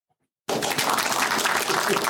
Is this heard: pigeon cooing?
no